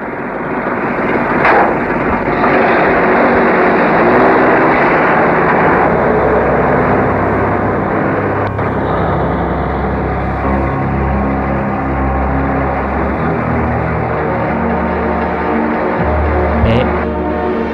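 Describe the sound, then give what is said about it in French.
A large truck drives through a city, its engine droning steadily and loudly throughout, a deep rumbling roar with a few sharp knocks and clatters breaking through. “Le camion roule dans la ville.”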